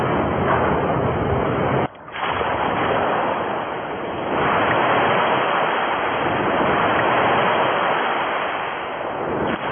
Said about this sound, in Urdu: وہ منظر دکھا رہے تھے، کس طرح تیزی کے ساتھ یہ طوفان اتنے بڑے جہاز کو وہ ڈبو رہا ہے، اتنا وہ جہاز کو ڈوبنے کا منظر بتائیے. پانی کے اندر اب طاقت دیکھیے، پانی کے اندر طاقت کتنی ہے، اور یہ کس طرح اتنے بڑے جہاز کو یہ جیسے ڈبو رہا ہوتا ہے، ذرا دکھائیے منظر.